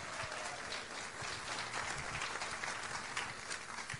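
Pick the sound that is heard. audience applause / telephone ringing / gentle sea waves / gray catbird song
audience applause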